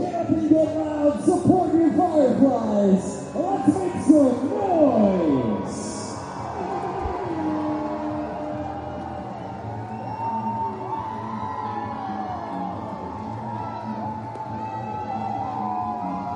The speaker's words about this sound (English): And now, ladies and gentlemen, it's the Crowd Noise Cam.